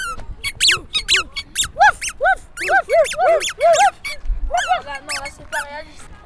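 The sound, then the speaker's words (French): A squeaky dog toy ball squeezed over and over, a rapid series of high, bright squeaks in irregular bursts, fairly loud, with a short pause near the end before more squeaking. “Balle pour chien.”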